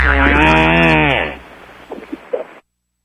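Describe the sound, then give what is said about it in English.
A kangaroo fart: one loud, low, buzzy blast lasting about a second and a half, its pitch wavering and sagging, then trailing into faint, scattered rustling noises before silence. “This is what it sounds like when a kangaroo farts.”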